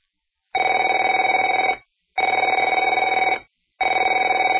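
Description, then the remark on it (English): A telephone rings in three long bursts, each about a second and a half, separated by short pauses. The ring is a steady, buzzy electronic trill with a bright, mid-high tone and no voices. “Afraid to answer it?”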